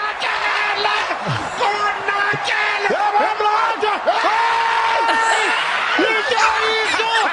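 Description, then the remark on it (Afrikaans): A large stadium crowd at an All Blacks rugby match yells and roars throughout, many voices overlapping in loud, rising shouts and whoops that stay steady and dense for the whole stretch, in a broadcast of the match, at the moment a player loses the ball. “Daar waar hulle skree, nee.”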